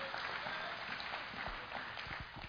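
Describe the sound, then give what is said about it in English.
A crowd claps steadily throughout, a dense wash of many hands at a fairly even level, with a few louder claps standing out near the end and no voices above it. “Come on, give them a round of applause.”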